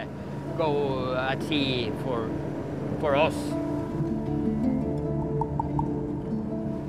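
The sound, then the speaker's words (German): A small fishing boat's motor hums steadily over the water near the Lofoten as it heads out to its fishing nets, a constant low drone throughout, with a few brief warbling high-pitched calls near the start. “Nach rund einer Stunde Fahrt verringert Gay das Tempo. Langsam gleitet sein Boot zu einer kleinen roten Boje.”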